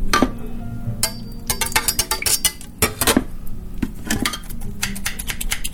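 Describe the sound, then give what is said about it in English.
Metal utensils clank and clink against each other in water, a steady run of sharp, irregular knocks with no one speaking. “What about clanking, clanking of utensils in water?”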